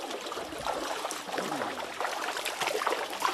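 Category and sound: ambience, water trickling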